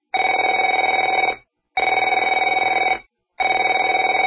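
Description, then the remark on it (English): A telephone rings in three long, loud bursts with short silent gaps between them, each ring a steady, buzzy warble. No one speaks. “Afraid to answer it?”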